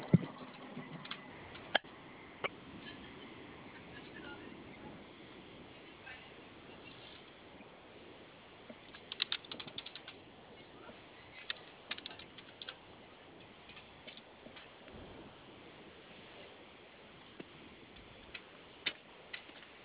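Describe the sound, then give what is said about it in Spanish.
A computer box powering on: a low, steady whir with sporadic sharp clicks and ticks scattered throughout, quiet, with no one talking. “Escúchala, déjala prender entonces.”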